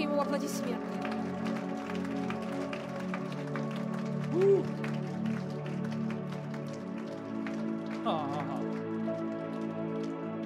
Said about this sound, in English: Ooh, come on, give Jesus a hand clap.